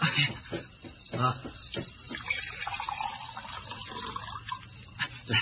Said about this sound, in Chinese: 水，我要喝水。 好，我来倒水啊。